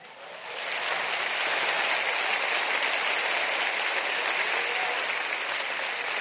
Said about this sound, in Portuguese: O aplauso é para Jesus. O aplauso é para a palavra de Jesus, e se é para Jesus, está ruim demais. Se é para Jesus, tem que ser melhor.